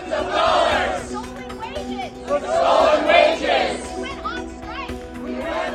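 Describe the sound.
A crowd of protesting students on stage at an event with the chancellor chants loudly in rising waves, with scattered claps and shouts mixed into the steady din of the group.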